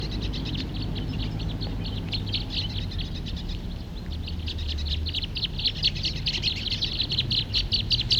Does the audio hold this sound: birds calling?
yes